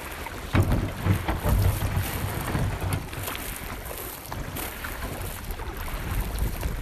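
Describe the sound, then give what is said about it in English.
Paddles splash and knock against a small boat being paddled up the Copalis River on the Washington coast, with wind buffeting the microphone and a steady outdoor rush underneath. No one speaks. “the ghost forest, which can be accessed by a quick paddle up the Copalis River on the Washington coast.”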